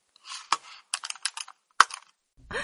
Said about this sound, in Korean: 알았어. 그러니까 마우스를 여기다 갖다 놓고 사진을 클릭해서.